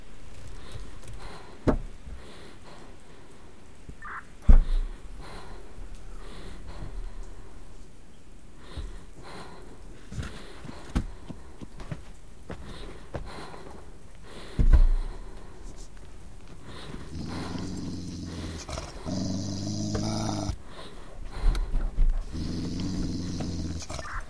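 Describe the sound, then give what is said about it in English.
A trained sniffer dog snorts and sniffs around a car during a routine vehicle inspection, with quick bursts of breathy snuffling, a few dull bumps, and a run of harsher, rhythmic snorts near the end. “Miss, the dog is well trained. If there is something, he will find it.”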